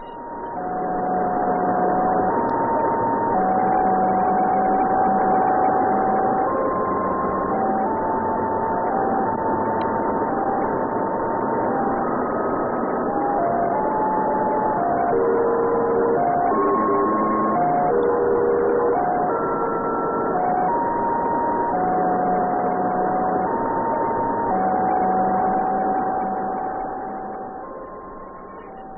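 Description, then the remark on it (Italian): A radio signal from TRAC, the American satellite launched from Cape Canaveral on 16 November 1961, recorded by the Bochum observatory days after launch: a loud, continuous hiss of static carrying steady electronic tones that hop between pitches irregularly, running without pause before cutting off at the end. “Presso poco perché in realtà si tratta di uno dei più curiosi segnali inviati da un satellite.”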